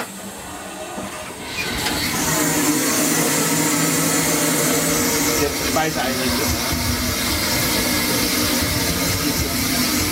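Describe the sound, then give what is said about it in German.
A steam locomotive's boiler is fed water by a steam ejector drawing it from the water tanks, raising the water level: after a quieter opening, a loud, steady hissing rush kicks in near two seconds and holds evenly, with a low mechanical hum running beneath it. “Jetzt steigt der Wasserstand an, wird Wasser gespeist.”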